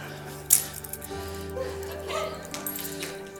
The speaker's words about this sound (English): Toss me my keys back, my friend.